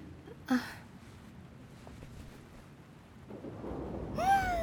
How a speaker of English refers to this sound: Sorry, I just really hate thunder.